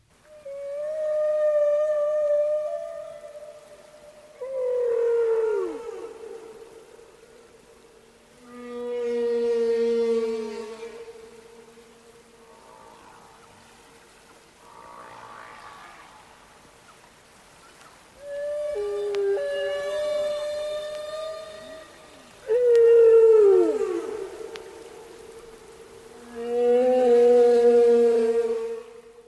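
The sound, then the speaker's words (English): Humpback whale song played from a record: long, mournful tonal moans and rising, wavering cries repeating in phrases with brief pauses, rich in harmonics and fairly loud, with no talking. “Humpback whale music or noises.”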